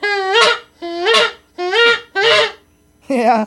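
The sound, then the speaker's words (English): Geese honk loudly, five strident calls in a steady rhythm with short pauses between them, each a rasping, harmonically rich blare rising and falling in pitch. “Yeah, that was a word from the geese.”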